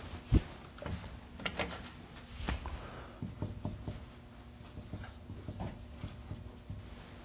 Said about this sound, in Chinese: 这个笔不太好写。